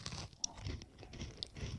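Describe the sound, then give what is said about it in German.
Quiet crunching as food is chewed, a steady series of gritty bites with a couple of sharper cracks, no voices present. “Das knirscht mehr beim Essen.”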